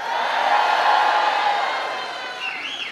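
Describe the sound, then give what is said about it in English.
A large crowd at a Kamala Harris rally inside a packed gymnasium booing and then cheering as a lifelong Republican nurse introduces Harris: a dense, sustained roar of many voices that stays loud throughout, with a few shrill whistles rising over it near the end. “At first, the crowd booed, and then they cheered.”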